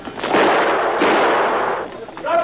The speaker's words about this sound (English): Watch out! That man behind you, he's got a gun! Watch out! Barclay dropped to the ground flat, a second before the man fired.